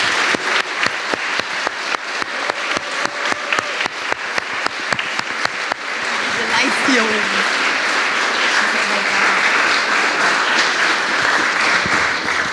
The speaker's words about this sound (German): Einen herzlichen Dank, einen riesen Applaus an euch bitte.